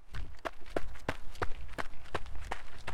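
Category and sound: human body sound, running footsteps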